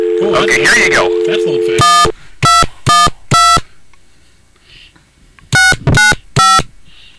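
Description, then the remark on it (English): A steady telephone dial tone hums briefly beneath a jumble of other sound, then gives way to loud, crisp touch-tone dialing beeps as a call to New York City is placed: a quick run of four, a pause, then three more. “Well, there's a little dial tone for you.”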